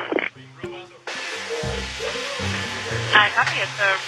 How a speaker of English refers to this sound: it was at that point we pushed the bathroom door open, and it was a robot vacuum cleaner vacuuming or trying to find its way back to its home base, really, is what it was doing.